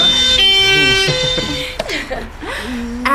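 The siren of a fire brigade's emergency vehicle, switched on deliberately, wails loudly, its rich, horn-like tones shifting and sweeping up and down in pitch over a few seconds.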